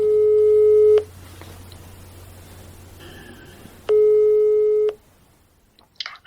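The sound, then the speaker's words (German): A telephone ringing tone as a phone number is dialled: two steady, one-second tones separated by a pause of about three seconds, heard clearly over a quiet line, followed by faint clicks near the end. “Also setze ich meinen ersten Plan um und wähle eine Telefonnummer.”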